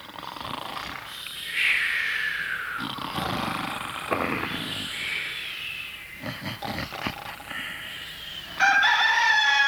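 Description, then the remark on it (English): A rooster crows loudly several times in a row, each drawn-out, strained call rising and falling, with a rough, noisy background and no talking. “All right, everybody, that's a rooster.”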